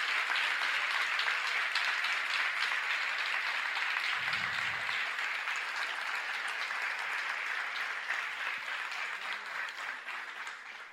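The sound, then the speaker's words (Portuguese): A crowd applauds steadily for about eleven seconds after the speaker asks them to applaud someone, a dense, sustained wash of clapping that stays full throughout and eases off only slightly near the end, with no one talking over it. “Bora aplaudir ele, por favor. Ele merece.”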